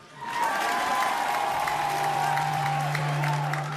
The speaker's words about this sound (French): c'est elle, applaudissez-la.